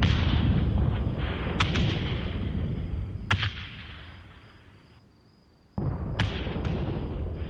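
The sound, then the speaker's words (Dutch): Artillery shells exploding during an Allied offensive, falling by the dozens around a farm near the Bossenweg by Café de Ketting, in a heavy, continuous barrage, with several sharp blasts cutting through a dense low rumble that briefly fades before erupting again. No voices. “De granaten vallen met tientallen tegelijk, ook in de omgeving van de boerderij.”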